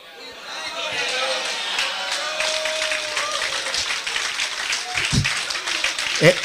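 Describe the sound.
An audience applauds in a steady, dense wash of clapping that lasts the whole stretch, with indistinct voices mixed in underneath and a few louder claps near the end.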